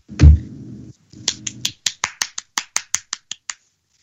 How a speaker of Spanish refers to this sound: Me permite, sí, me permite el aplauso.